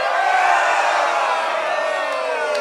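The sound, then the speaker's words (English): A large crowd of men watching a stage performance at night roars and cheers loudly and continuously, a dense wall of overlapping shouts and whoops that holds steady for a few seconds. “The men in the crowd watch in awe, letting out loud roars.”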